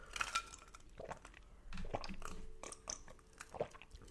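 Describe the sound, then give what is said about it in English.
Someone sips a chai latte, made from chai concentrate and oat milk, from a glass, with a few light clinks of glass, a soft slurp and swallowing sounds, all fairly quiet and with no talking. “I'm just gonna take a sip.”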